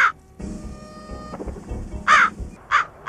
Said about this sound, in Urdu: دراصل ہم جب بھی ہچکی لے رہے ہیں، اچھا کوے کا آواز آ رہا ہے بھائی، کیا کھائے تھے؟